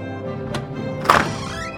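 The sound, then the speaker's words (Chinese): Two dull knocks on an office door, a light tap followed about half a second later by a heavier thud, over a steady tonal background hum. “有人敲了事务所的门，黑猫事务长双手插在口袋，豪迈地大喊： 进来。”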